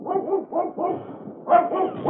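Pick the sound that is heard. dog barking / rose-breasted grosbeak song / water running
dog barking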